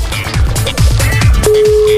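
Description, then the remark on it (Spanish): Upbeat music with a thumping beat plays, then partway through a steady, unbroken telephone ringback tone sounds over it and holds to the end, as an outgoing prank call on the Panda Show radio programme rings. “Estamos llamando.”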